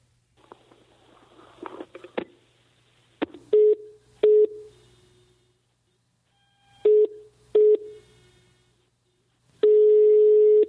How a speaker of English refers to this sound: Hello? Hello? I don't understand. What phone are you using that it beeps at the person that you're calling and then you say hello, hello? Like, were they listening the whole time it was beeping or were they using a calling card?